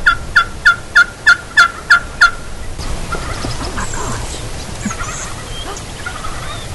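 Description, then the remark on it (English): A wild turkey gobbles far off in a quick run of about eight rattling, pulsing notes, then falls silent, leaving a steady outdoor hush with faint, scattered bird calls. “Hear the turkey just gobbled way off?”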